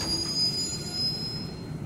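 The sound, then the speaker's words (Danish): A train rumbles steadily along the rails, heard from inside the driver's cab, a deep continuous drone with a thin high-pitched whine running above it, fairly loud, with no one speaking. “Toget vil simpelthen bremse, hvis Kim kører for stærkt.”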